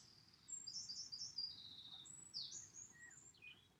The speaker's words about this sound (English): I'm listening to the birds. That is lifting all my brain waves and making me feel joyful.